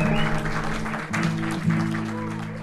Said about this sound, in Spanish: Y al final, la bailarina se envuelve hasta la cabeza bajo la gruesa falda morada, semejando un capullo. Nuevamente los aplausos rompen el silencio inquebrantable que rodeó la presentación entera.